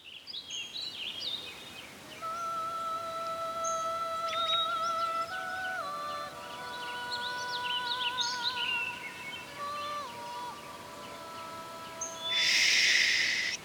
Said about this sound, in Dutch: Luister eens. Hoor je het? Mooi, hè? Er is op heel de wereld maar één vogeltje dat zo prachtig en zo zuiver zingen kan. Een klein grijs vogeltje, maar met een stemmetje zo kleurrijk als 100 regenbogen. Het is de nachtegaal.